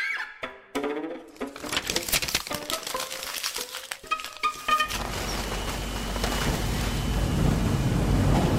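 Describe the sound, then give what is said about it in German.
Clanks and a whining truck engine echo through a house-high hall at a waste paper processing plant in southern Berlin, then a loud, steady rushing roar rises as masses of waste paper, used boxes and cardboard tumble out of huge trucks. “Aus riesigen Lkw fallen Papierreste, gebrauchte Kartons und Pappen in die haushohe Halle, füllen sie Meter um Meter.”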